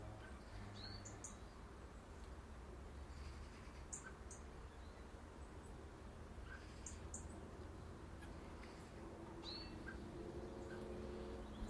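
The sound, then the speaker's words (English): Garden birds give a few scattered, short, sparse chirps in a garden set well back from the road, over a steady low rumble of background traffic. No one speaks. “Familiar sounds as well. Of the birds, of course.”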